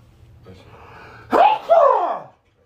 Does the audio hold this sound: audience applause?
no